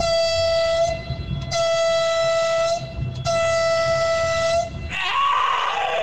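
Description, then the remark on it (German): Three long, loud blasts of a deep train-style horn, each held about a second and a half with brief gaps, followed by a burst of noisy rumble at the end. “Also ich habe schon mal gehupt, weil wir beide Einigkeit haben.”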